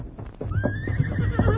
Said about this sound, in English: Listen, Toto. You hear horse. Run plenty fast. Yes. Seems to be coming along the trail from the west.